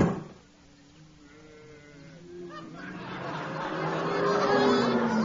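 Cows low in long, drawn-out moos that overlap one another, starting faint and swelling louder toward the end, as if from a small herd.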